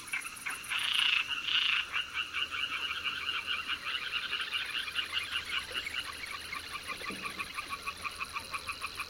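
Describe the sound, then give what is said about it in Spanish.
A dense chorus of thousands of Mediterranean tree frogs purring from the water at dusk amid mist, with rapid pulsing croaks overlapping in a steady, rhythmic drone; two louder bursts stand out near the start before the chorus evens out. “Emerge el ronroneo de las ranitas meridionales.”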